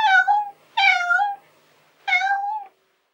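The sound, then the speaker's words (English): A cat meows three times in a row, each call a clear, drawn-out tone with a falling pitch, fairly loud, separated by short silences. “Look, this is the cat.”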